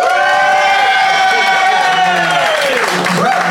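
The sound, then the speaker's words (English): A live Phoenix audience cheers and whoops loudly over steady applause, voting by applause for one side of a contest. The voices rise together in a sustained, high-pitched roar that holds throughout without any clear speech. “But if you think BT and Fanshawe won the day, applaud now.”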